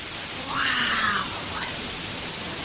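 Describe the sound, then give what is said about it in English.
Rushing river water makes a steady, even hiss throughout, with a brief wavering, rising-then-falling cry-like tone briefly riding over it partway through. “There's the river.”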